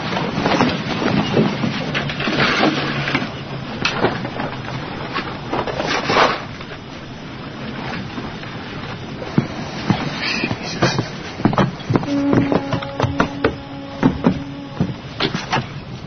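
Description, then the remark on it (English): A boat out on open water, waves sloshing steadily against the hull, with scattered knocks and creaks and a faint mechanical hum rising near the end. “Can you fish off this boat?”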